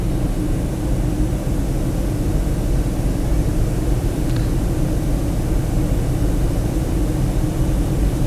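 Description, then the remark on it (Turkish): A steady, loud airplane cabin roar during the descent toward Ordu-Giresun Airport in Turkey fills the whole recording, a dense low rumble with a broad hiss on top and no voices. “İndiğimiz için, inmeye yaklaştığımız için.”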